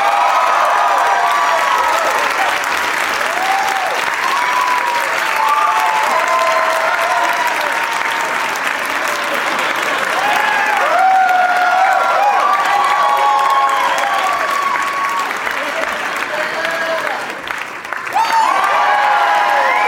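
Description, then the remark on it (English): A crowd breaks into sustained, loud applause with whoops and cheers rising through it as John Hodgman, Tig Notaro, Kurt Metzger and Nick Kroll are welcomed. It holds steady for the full stretch before dipping briefly and surging again. “Please give a big warm welcome to my friends, John Hodgman, Tig Notaro, Kurt Metzger, and Nick Kroll.”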